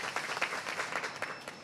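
An audience applauds steadily, many hands clapping at once in a dense, crackling wash that holds at an even, moderate loudness with small swells throughout.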